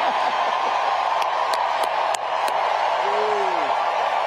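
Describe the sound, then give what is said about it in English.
A big campaign rally crowd in Arizona roars steadily, with scattered sharp claps and a rising-then-falling whoop cutting through the cheering near the end. “It's not as if anybody cares about crowd sizes or anything.”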